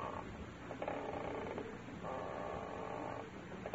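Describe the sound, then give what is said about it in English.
A rocking chair creaks in slow, drawn-out groans that repeat back and forth in a steady rocking rhythm as someone settles in and rocks in it, moderately loud, with no one speaking. “I've got to exercise more. My bones are rusting. Oh, it's the rocker.”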